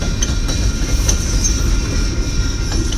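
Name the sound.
train rolling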